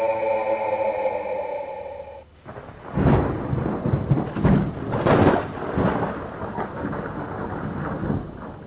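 A steady tonal drone fades into a thunderstorm: heavy, booming thunder rolls in repeated waves, with a continuous hiss of rain and wind beneath the rumbles.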